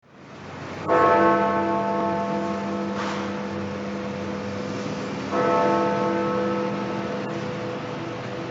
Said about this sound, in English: The sounds of Big Ben, sounds that are going silent, at least for 4 years. The bell has announced the hour from Parliament's iconic clock tower in London since 1859